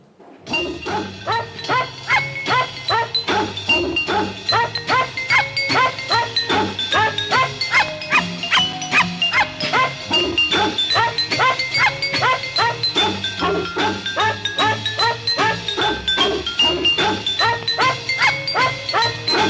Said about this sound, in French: Je disais que les chiens étaient les bienvenus cette année, on les entend, les chiens chanteurs.